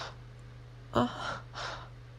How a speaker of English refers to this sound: Right, my breathing. Sorry for being so noisy.